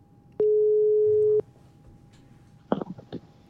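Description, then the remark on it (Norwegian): A single one-second ringback tone sounds clearly while a call is being placed, followed by a quiet pause and then a voice briefly answering the line. “Da ringer vi.”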